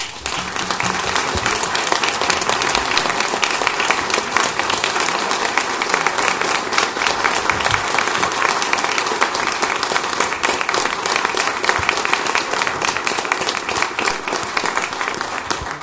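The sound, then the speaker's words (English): A crowd applauds steadily for about sixteen seconds for the Edwardsville team at a recognition of its state championship, a dense, sustained wash of many hands clapping at once, loud, with no pauses or speech. “The only time you go and see a Highland Bulldog clap for the Edwardsville team.”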